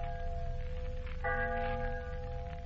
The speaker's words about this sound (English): The church bell's tolling for Miser Stevens.